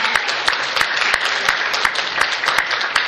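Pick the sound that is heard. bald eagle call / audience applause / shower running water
audience applause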